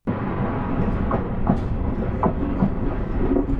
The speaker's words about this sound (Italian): La nostra storia incomincia nel maggio del 1972, su un treno. È il treno che va da Padova a Firenze, un treno tipicamente caldo e scomodo.